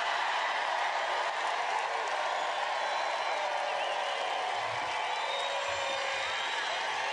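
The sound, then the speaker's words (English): A crowd at a Donald Trump rally in Iowa cheers and applauds what Trump says, in a steady, sustained roar that runs without a break for several seconds, dense and loud throughout with no clear voices standing out. “Most significantly, listen to how long the audience cheers what Trump has to say.”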